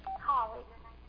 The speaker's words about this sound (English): That's never happened ever before in my life. Somebody trying to call me while I was preaching.